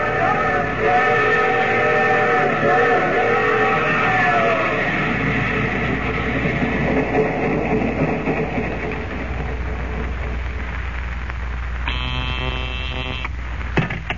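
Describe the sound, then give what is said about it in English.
A steam train rumbles steadily and loudly throughout, its whistle sounding a long chord at the start and a short, sharp blast again near the end. No one speaks. “Well, the train halted, then.”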